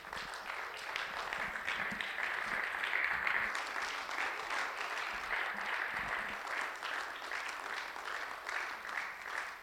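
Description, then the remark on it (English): A church audience gives the mothers a standing ovation on Mother's Day: sustained applause from a large crowd for about ten seconds, dense clapping with a few scattered cheers and no speech over it. “One more time, why don't we give them a standing ovation? Why don't we stand and applaud them?”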